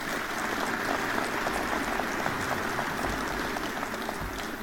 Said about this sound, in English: I also want to thank my invited guests in attendance tonight for your long-standing support. Would you give them a round of applause, please?